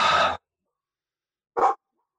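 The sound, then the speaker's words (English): A dog barks twice, a full, loud bark followed after a second of silence by a shorter, sharper one, with no other sounds. “I'm going to let my dog fill the pause.”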